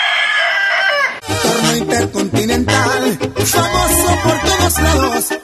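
A single loud rooster crow rings out for about a second, then is cut off as upbeat music with a heavy bass line kicks in and plays to the end.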